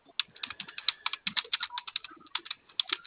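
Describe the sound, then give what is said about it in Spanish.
Rapid, uneven clicking of keys being pressed on a keypad to open a box, a couple dozen sharp taps in about three seconds, fairly quiet, with no voices. “Mire, vamos a usar la apertura por teclado debido a que su caja no me reporta del compañero.”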